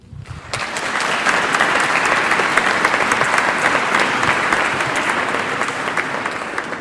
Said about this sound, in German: Wenn Sie jetzt bei jedem klatschen, dann... sind Sie heute, kriegen Sie um 2 Uhr Mittagessen, ich sag's Ihnen.